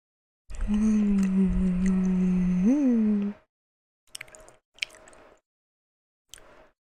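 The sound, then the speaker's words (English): A sustained hummed 'mmm' with a brief upward lilt, followed by three short, soft crunchy chewing bursts spaced a second or so apart while someone munches very sweet candy for ASMR. “No, you can't really hear the crunch too much. This stuff is too sweet for me.”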